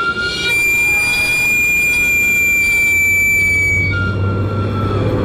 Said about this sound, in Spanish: Y aunque con el tiempo han cambiado muchas cosas, este sonido sigue intacto, evocando nostalgia y tradición. ¿Quién no ha salido corriendo con una moneda en la mano al escuchar el chiflido del camotero?